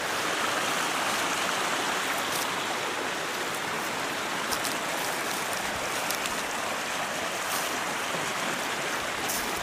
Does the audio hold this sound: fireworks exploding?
no